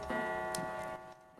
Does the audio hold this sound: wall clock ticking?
yes